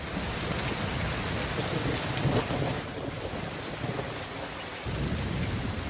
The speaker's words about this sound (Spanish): Joder, de verdad, otra vez lloviendo.